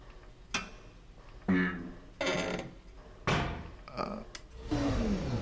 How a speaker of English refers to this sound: The buttons sound like when the engine is trying to start. The engine is sputtering. It's not running with full power yet.